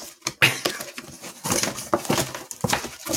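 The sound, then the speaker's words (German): Packaging rustles and crinkles in a string of irregular, crackly bursts as a cajon is unboxed, with no talking over it. “Ich wollte noch ein bisschen rascheln hier.”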